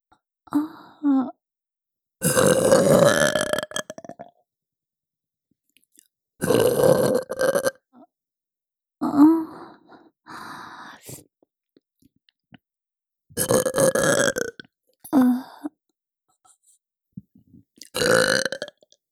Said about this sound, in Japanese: いいわよ、もっと聞かせてあげる。ママゲップ、たっぷり味わってね。